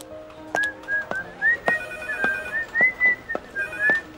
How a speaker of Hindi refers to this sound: अरे वाह … जी, आपकी ये मधुर सीटी बिल्कुल ट्रेन इंजन जैसी है, है?